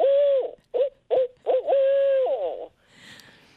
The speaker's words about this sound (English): If you're in a heavily wooded area, barred owls, B-A-R-R-E-D, like our Pierce, and they're the ones that say the who cooks for you. So it's ooh, ooh.